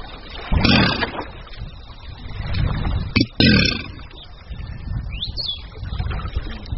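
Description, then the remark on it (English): Deep, rumbling bellows from male Chinese alligators calling to attract a mate at a breeding center in Shuangzhong, China, come in three loud, guttural bursts, separated by short pauses, with a brief rising bird chirp afterward and a steady low background hum. “The males bellow to attract a mate.”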